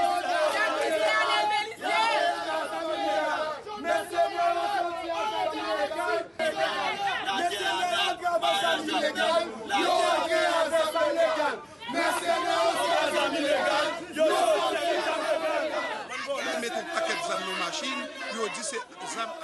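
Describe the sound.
A large crowd in Haiti shouts and chants continuously, many overlapping voices raised in loud, agitated protest against the arrest of deputy Anel Belizer as he appeared before the court, with rising swells of yelling and brief dips throughout.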